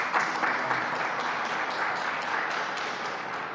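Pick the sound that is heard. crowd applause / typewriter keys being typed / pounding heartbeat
crowd applause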